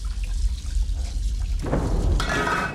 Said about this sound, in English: In a kitchen, two full plates of food sit on a counter beside the sink. A plump older woman washes dishes.